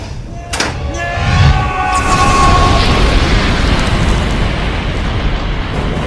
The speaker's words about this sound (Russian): Мэйдэй, мэйдэй, мэйдэй! 1, 2, 5, 4! Это Роза Мэри. На борту был взрыв. Весь машинный отсек в огне. Корабль может затонуть, как слышите?